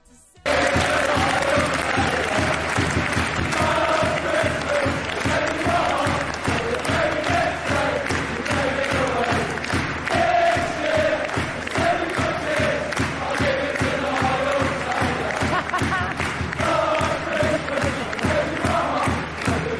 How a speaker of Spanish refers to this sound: el Charlton Athletic la usó para mostrar su cariño al delantero Lyle Taylor. Era uno de sus consentidos. Y el día de su retiro, cuando sale de cambio para que la gente le aplauda, la tribuna empieza a cantar así.